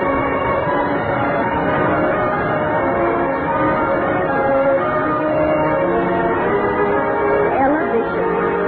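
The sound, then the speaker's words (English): A school bell rings loudly and continuously, a steady, dense metallic clangor held for several seconds without a break. “I remember the excitement of hearing the school bell.”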